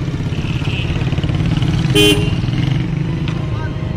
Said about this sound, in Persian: مردی که یه روز نینو روتا و موریکونه براش موسیقی می زدن، حالا صداش صدای بوق ماشینا و موتوراست.